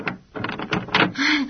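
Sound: door being opened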